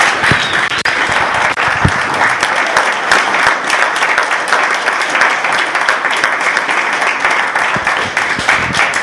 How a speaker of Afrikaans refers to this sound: So baie baie dankie. Kan ons miskien net vir hulle 'n hande klap gee en sê baie dankie.